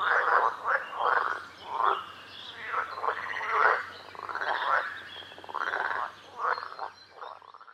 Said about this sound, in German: Im Sommer sind sie dann so groß, dass sie an Land gehen können. Dann hörst du sie am Ufer quaken.